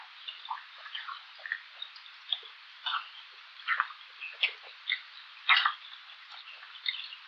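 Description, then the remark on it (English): Herring farting air from the swim bladder: rapid, high-pitched pulsing ticks in a string of short irregular bursts, thin and fairly faint, with no voices. “Herrings create pulsating sounds when pressing air from their swim bladder into the anal duct.”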